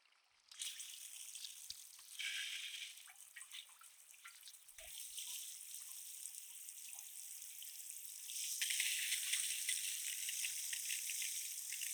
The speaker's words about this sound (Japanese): ではまずはシャワーで濡らしますね。